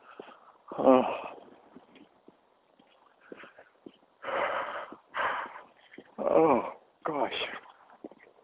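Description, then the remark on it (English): Yawning very close to the microphone: a series of loud, breathy, stretched-out vocal exhales and groans in several bursts, with quiet pauses between them. “Yawning right in your ear.”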